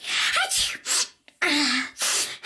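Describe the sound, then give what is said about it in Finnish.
A single real human sneeze, loud, from a person who had just woken up, with noisy, breathy bursts before and after it and no talking. “Kyllä, se oli ihan oikea aivastus.”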